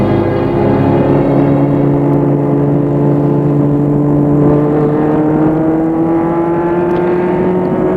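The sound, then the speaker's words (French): A car engine hums steadily, its pitch climbing gradually as it accelerates over several seconds, loud and continuous with no voices, as the car drives to the centre of Bordeaux. “La voiture et vont à Bordeaux, centre.”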